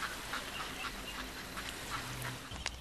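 Several ducks quack in a loose, irregular series of short nasal calls over a steady outdoor background hiss, without any voices.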